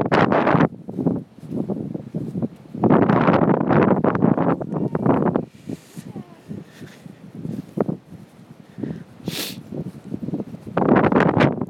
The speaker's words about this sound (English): And it's very cold and windy.